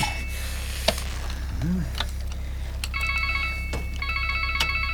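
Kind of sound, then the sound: signal or alarm, mobile phone ringing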